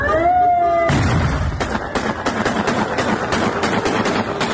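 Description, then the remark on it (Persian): A brief chanted or sung voice gives way to loud, rapid bangs, about a dozen sharp blasts in quick irregular succession: rocket-propelled grenades fired into the air by Hezbollah members celebrating the arrival of fuel tankers from Iran in city streets in Lebanon, over a constant roar of noise. “شادی اعضای حزب الله لبنان با شلیک هوایی RPG در خیابان‌های شهر.”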